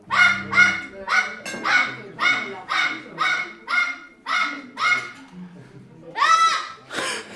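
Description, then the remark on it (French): A parrot named Jaco mimics the barking of the household dog, about a dozen sharp, evenly paced woofs, with a low hum under the first second and a slightly longer, rougher bark near the end. “Et oui, Jaco n'a pas pour modèle que la voix humaine. Il y a aussi les aboiements du chien de la maison.”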